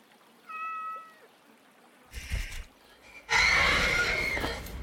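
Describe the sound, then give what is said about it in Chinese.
A cat gives a short, clear meow, followed by a brief rough burst and then a louder, harsh, noisy drawn-out cry lasting over a second, with no talking. “你仔细看，它就是一只可爱的猫猫啊。”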